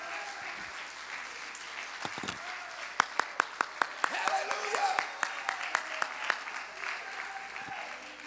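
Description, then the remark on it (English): A church audience claps their hands unto the Lord in a steady wash of applause, with several sharp, evenly spaced claps standing out in the middle and faint voices murmuring underneath. “If that's you, clap your hands unto the Lord.”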